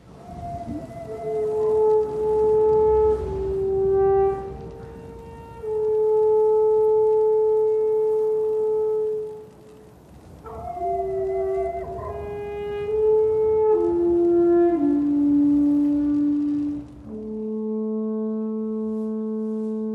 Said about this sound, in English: we get a musician that pops up playing on a range of alpine horns